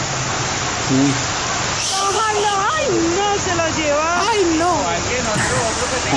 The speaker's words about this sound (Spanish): Ayer y en medio de las lluvias en la localidad de San Cristóbal, una pareja de motociclistas cayó en una vía del barrio San Blas. El agua se llevó por delante lo que encontró.